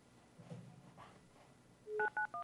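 A quick series of three or four clear telephone keypad tones, each pairing two steady pitches, pressed in rapid succession while dialing a call, after a stretch of faint, murmuring background noise.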